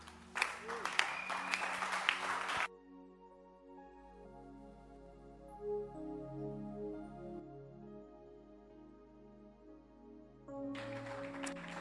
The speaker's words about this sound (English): Are you putting your hands together? Appreciate Jesus. Put your hands. Clap, clap, clap.